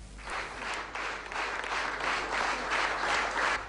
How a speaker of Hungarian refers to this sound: A taps ezúttal a kollégáktól jön. A közönségtől megszokhatta már az elismerést, a pályatársaktól még szokatlan.